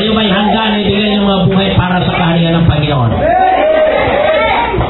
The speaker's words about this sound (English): I hope you mean that. I hope you're not just shouting and clapping because somebody next to you is.